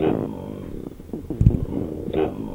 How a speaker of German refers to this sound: Die erste Krise im Studentenleben kommt früher als erwartet. Dann nämlich, wenn in der neuen Bude zum ersten Mal der Magen knurrt.